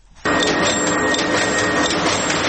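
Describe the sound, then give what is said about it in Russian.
A loud industrial printing machine in a printing house starts abruptly and runs steadily, its mechanical clatter pulsing in a fast, regular rhythm as it cuts a huge paper roll into sheets of different sizes, with no voices. “Шумная машина ритмично нарезает огромный рулон на листы разных размеров.”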